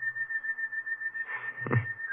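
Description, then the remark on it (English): Someone whistles a slow, mournful tune, holding a long steady note at moderate volume, with a brief low thump near the end and no talking. “Ever since I made my report, I've been hearing that song in my head. Like somebody whistling it.”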